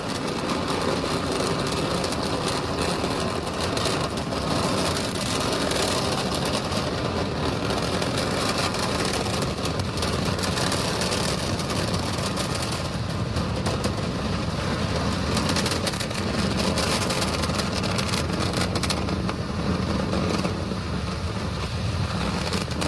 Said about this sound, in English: T-plus 40 seconds. We've heard call-outs. And now we're entering the throttle bucket. Right, we're powering down the Merlin engines to relieve the acceleration as we get ready for the period of maximum dynamic pressure.